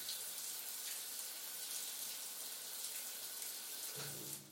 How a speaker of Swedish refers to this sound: Jag står här med nästan kokande varmt vatten rinnande ner för min kropp och jag undrar hur länge till.